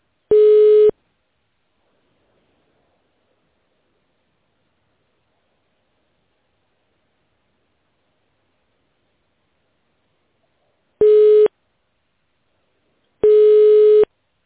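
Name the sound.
telephone tone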